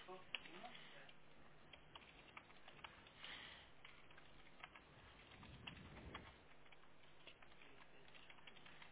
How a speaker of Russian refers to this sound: Это кнопка, которая со внутренней стороны? Да, да, да, да, да. Ее надо прям 10 раз нажать. Как ее нажать? То есть тоже она не нажимается нормально, не реагирует дверь, да, получается?